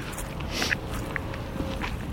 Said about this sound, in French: je suis en train de marcher dans la boue.